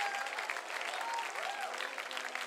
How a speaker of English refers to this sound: Come on, clap your hands again. Give voice to what's happening.